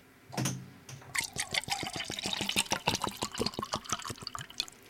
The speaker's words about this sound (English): But what we do have is a 9-volt battery and salt water. So if you are at home, you get your cup and we are going to pour in some water.